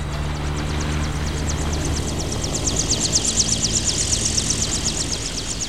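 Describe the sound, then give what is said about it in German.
A steady, heavy engine drone with a rapid rhythmic chopping on top, like helicopter rotors, as helicopters circle a clearing by an altar in a jungle crater and descend to land, growing slightly louder toward the end. No voices. “Wie riesige schwarze Insekten umkreisten die Hubschrauber den Platz und sanken schließlich herab.”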